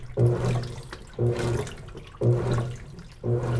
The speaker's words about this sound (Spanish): Nu enviaron dos pistas grabadas en Nicaragua. Una de un programa de radio. Y otra de una lavadora.